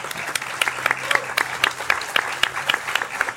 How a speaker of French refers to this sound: On peut les applaudir d'ailleurs, les équipes de France Musique.